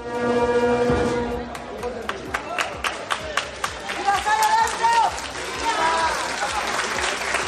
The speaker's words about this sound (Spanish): Aplausos y tambores retumbaban por las calles de Lavapiés.